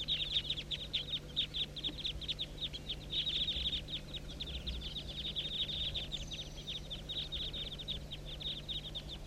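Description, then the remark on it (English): A large flock of some 25 to 30 birds circling about 200 feet above a hollow calls continuously, a dense chorus of rapid, high chirps and squeaks overlapping without pause over a steady low hum. “Now they're about 200 feet, still circling above the hollow.”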